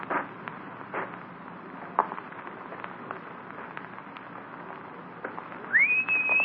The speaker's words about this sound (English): When I'm close enough, you whistle loud enough to make the feller turn over this way.